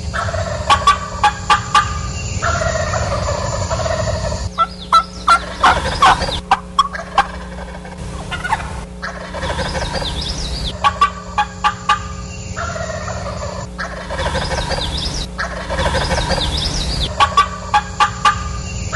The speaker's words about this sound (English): the response I got from the turkeys